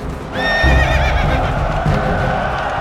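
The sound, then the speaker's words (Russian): A horse ridden by the wounded Suvorov gallops forward into battle, letting out a loud whinny with a shaky, wavering pitch while its hooves pound steadily underneath throughout, with no voices. “Суворов раненый-перераненый на коня садится. В белой рубахе на груди крестик, в руке шпага и скачет вперед.”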